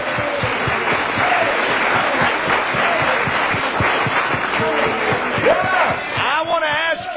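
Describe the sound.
An audience at a church service claps hands to God steadily as a show of faith, with loud, dense rhythmic claps and crowd noise throughout, and voices calling out and cheering near the end.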